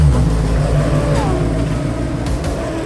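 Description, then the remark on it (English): A rally car engine revs loudly at the service park in Canberra, Australia, ahead of round one of the Australian Rally Championship: a thick continuous rumble with a brief rising sweep partway through, holding strong for the whole few seconds. “We're live in Canberra, surrounded by some of the best rally drivers and cars in the country ahead of round one of the Australian Rally Championship this weekend.”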